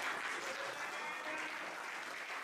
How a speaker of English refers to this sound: Look, we are clapping.